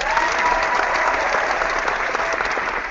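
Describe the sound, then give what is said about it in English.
A live studio audience claps and cheers steadily for a few seconds, a dense, loud wash of applause with scattered whoops mixed in, no one speaking over it. “The crowd goes wild.”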